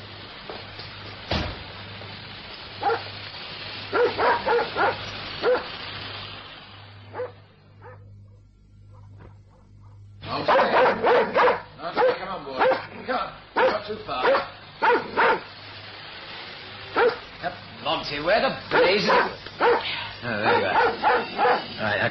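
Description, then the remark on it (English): A dog barks repeatedly and loudly in sharp bursts; after a brief lull the barking resumes faster and more insistent, over a low steady hum. “Well, there goes the dog.”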